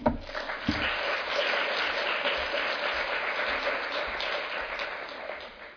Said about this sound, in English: Once again, a round of applause for our guests. We appreciate the presentation. Thank you very much.